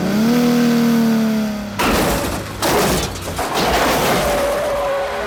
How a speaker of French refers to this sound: Le polar érotique Jade, avec l'expert David Caruso, et puis William Friedkin oblige, une nouvelle grande poursuite en voiture.